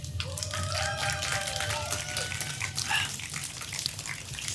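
A sustained burst of audience applause fills the room, dense and steady, with a few whoops and cheers rising briefly above the clapping.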